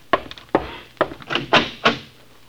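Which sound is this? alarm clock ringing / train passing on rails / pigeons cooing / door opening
door opening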